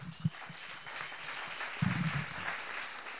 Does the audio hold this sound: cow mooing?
no